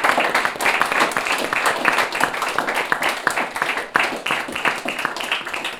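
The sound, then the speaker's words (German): A theatre audience that has watched a performance and stayed for a talk breaks into sustained applause, a dense wash of many hands clapping at a steady, fairly loud level for several seconds, with no voices standing out. “Bei euch allen, die ihr nochmal gekommen seid. Applaus.”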